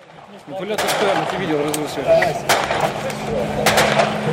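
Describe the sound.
Sharp, irregular cracks of gunfire and shelling by separatists burst out several times over a steady rumble on the front lines in Ukraine during a ceasefire, with a voice talking underneath throughout.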